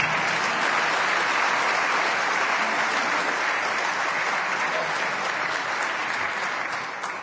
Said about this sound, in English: First, you can clap for them. That's all right.